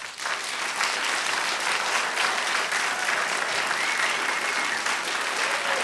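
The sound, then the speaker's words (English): A studio audience at the Knight Studio in the Newseum, on NPR's Talk of the Nation, applauds on cue: steady, sustained applause, a dense wash of clapping hands at even loudness for several seconds, with no talking over it. “And as you can tell, we have a very tame and well-trained audience here who applauds on cue.”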